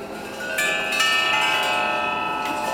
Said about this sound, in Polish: To są dzwony rurowe. To jest instrument, który gra dość podobnie do tego, co widzieliście, jak oglądaliśmy sekcję perkusyjną, bo to trochę i gong, i trochę czelesta, trochę jak trójkąt, tak więc